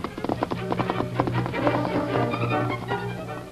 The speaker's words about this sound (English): Sam heard the hoofbeats of an approaching horse and thought it might be the Lone Ranger returning from town.